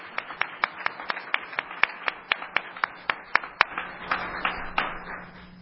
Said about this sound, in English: Thank you. Let's applaud all three.